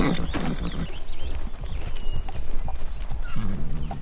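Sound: horse hooves clip-clopping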